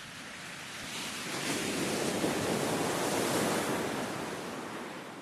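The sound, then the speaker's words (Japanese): Ocean surf on a cold winter morning washes in as a broad, steady roar, the sea glittering in the morning sun, one wave swelling and then slowly easing back, with a faint breeze. No voices are heard. “そう言った彼と一緒に来たのは、朝日に照らされてキラキラと輝く海だった。”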